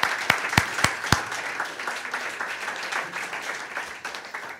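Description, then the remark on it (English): An audience applauds for Greg Wright as filmmaker Rick Stevenson is brought up. It opens with a few sharp, loud claps, then settles into a steady, dense patter of clapping that fades slightly toward the end, with no voices. “Let's have a big round of applause for Greg Wright and bring up filmmaker Rick Stevenson.”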